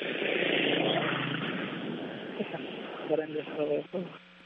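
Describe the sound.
A car passes in the street, its broad rushing engine roar steady at first and then fading away over a few seconds, heard over a thin phone line before brief faint voice fragments.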